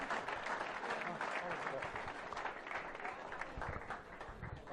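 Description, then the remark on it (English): An audience applauds in congratulations for an honoree, with dense, steady clapping that stays fairly loud for about five seconds, with a few indistinct voices mixed into the crowd noise. “Let's give a warm round of applause and congratulations”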